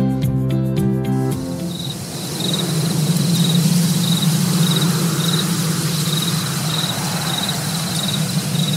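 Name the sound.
crickets chirping at night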